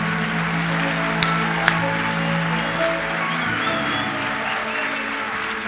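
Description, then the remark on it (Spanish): A crowd applauds steadily for several seconds, a dense, even wash of clapping with a few sharper claps standing out, mixed with a low murmur of voices underneath. “si ese es el aplauso que le va a dar.”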